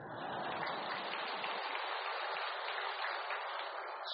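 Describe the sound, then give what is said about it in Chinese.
An audience claps steadily for about four seconds, a dense, even wash of many hands with no voices over it, holding at a constant loudness throughout. “先鼓掌，待会儿再说吧。”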